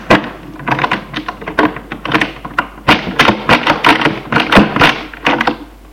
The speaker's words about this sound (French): L'on met une clé dans la serrure.